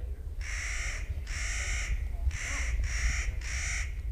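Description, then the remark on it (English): Five harsh, grating calls from a Clark's nutcracker ring out in a steady rhythm, each about half a second long, loud over a low wind rumble. “A bird called the Clark's Nutcracker, for example, specializes in plucking out the white bark pine seeds and burying them all over the place for winter food.”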